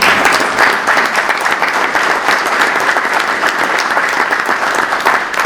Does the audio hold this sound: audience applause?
yes